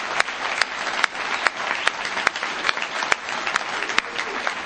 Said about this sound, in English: I mean, I don't think we've done it, but let's give everybody a round of applause. The other round of applause I'd like to give is to Walt and Mary, the Tapers. Thank you so much.